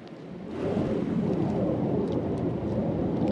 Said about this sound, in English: The Iraqi guard is nervous because Turkish jets are roaring high overhead.